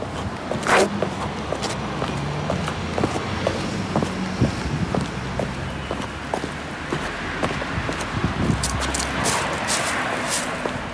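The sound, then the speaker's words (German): Steady footsteps in ordinary sneakers crunch along a sidewalk scattered with dry fallen leaves, each step crisp, with a faint low rumble of traffic in the background and no voices. “bin ich da mit ganz normalen Sneakerschuhen auf dem Gehweg gelaufen”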